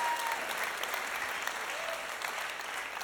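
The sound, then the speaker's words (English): A church audience claps steadily, a dense wash of many hands with no clear beat, holding at an even moderate loudness throughout, with no voices standing out. “But thank you for clapping. Do it again.”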